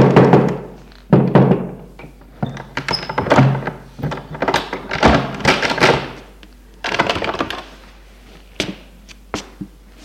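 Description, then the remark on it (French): A series of dull, heavy knocks on a wooden hotel room door by the hotel director, a small bald man, coming in irregular clusters over several seconds, fairly loud, with brief pauses between bursts. “Un jour, n'en pouvant plus, le directeur de l'hôtel, un petit homme chauve, frappe à la porte de leur chambre.”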